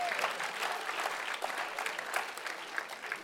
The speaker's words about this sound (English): Come on, let's give our drama team a big clap tonight.